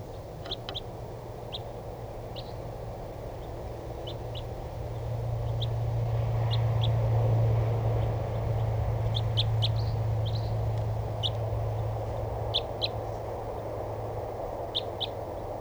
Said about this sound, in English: A couple of more crossbills just came in here. I'm not sure what call type, but the decoys got excited. And there's two of them. At least, oh, there's a whole flock. And the other wild bird is calling. These sound like type 2s.